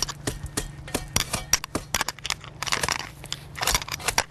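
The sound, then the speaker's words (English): A flathead shovel, held close to the soil, chops repeatedly through an old chard plant that has gone to seed, cutting it up for compost, giving sharp, uneven crunching strikes with crackly, fibrous tearing between blows, with no voices. “All right, so I take my flathead shovel and I just chop it.”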